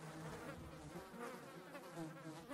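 Flies buzzing over decaying fruit and raw chicken and beef left as offerings in the sun, a continuous, overlapping drone, the whining pitch wavering slightly as they move about. The buzz stays steady and fairly quiet throughout, with no voices.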